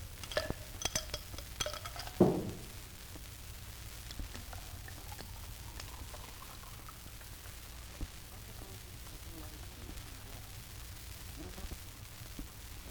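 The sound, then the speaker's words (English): A few ice cubes clink against the sides of a glass in a quick burst of bright, ringing, almost metallic taps near the start, then carbonated water is poured over them and fizzes with a steady, soft crackle of rising bubbles for the rest. “You'll notice the high, almost metallic clink as they hit the sides.”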